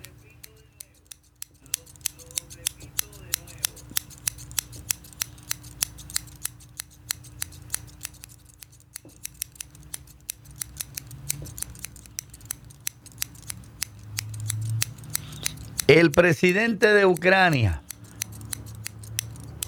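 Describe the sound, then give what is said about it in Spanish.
Sharp metallic scissor clicks snap in a steady, castanet-like rhythm, crisp, as a person plays scissors in place of castanets, running throughout while a person speaks briefly underneath and a louder voice or sound swells near the end. “Estoy tocando las tijeras porque no tengo castañuela.”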